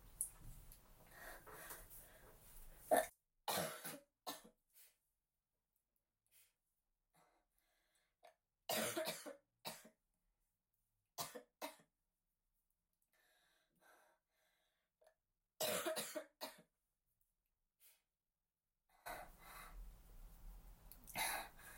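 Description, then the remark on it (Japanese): A series of harsh coughs, brought on by overexcitement, comes in irregular bursts separated by quiet pauses, mixed with sharp breathy gasps, and ends with a longer rough stretch of coughing and heavy breathing. “興奮しすぎちゃって咳出ちゃってごめんなさい。”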